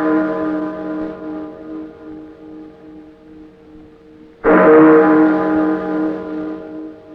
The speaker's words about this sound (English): I've been caring for these chimes nearly 20 years now. And this is the first time I ever known them to ring late. And on Christmas Eve, too.